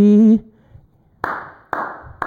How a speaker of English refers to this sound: It's just one hand clapping here. It's just me and him in the room.